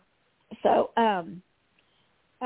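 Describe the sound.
A fairly loud rough cough burst runs straight into a voiced, rasping throat clear, then a short pause before another sound starts right at the end.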